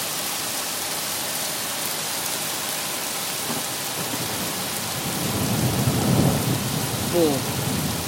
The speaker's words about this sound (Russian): Хорошо так. С громом, со всеми вот этими эффектами, как говорится.